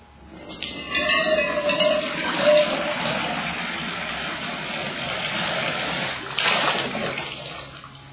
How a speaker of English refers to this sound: Yeah, biggest rain so far this spring, as far as I know. Nice and cool. You can hear the rain. You can hear the river running. You can hear new beginnings.